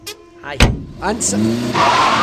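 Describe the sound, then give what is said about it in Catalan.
A heavy thud as a man shuts a woman inside a car's trunk, then the car engine cranks and rises in pitch before settling into a steady roar as the vehicle pulls away. “Ella intenta desempallegar-se'n, però l'home és prou hàbil per entaforar-la dins el maleter i arrenca el cotxe.”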